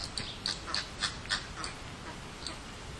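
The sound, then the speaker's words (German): A rapid series of sharp, scratchy bird calls bursts out in quick succession for a couple of seconds, like two birds bickering, then tapers off against a steady outdoor background hiss. “Da zanken sich mal zwei, aber das ist dann auch wirklich alles, was man hier so hört.”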